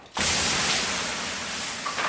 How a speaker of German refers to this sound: Mit einer langen Kelle wirft sie das Wasser regelrecht auf die heißen Steine, dass es nur so zischt.